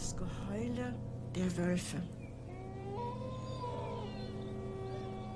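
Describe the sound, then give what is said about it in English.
Wolves howl in long, wavering tones that rise and fall and overlap one another, with a steady low rumble underneath throughout. “We said our prayers in the evening, and then we always heard the howling of wolves.”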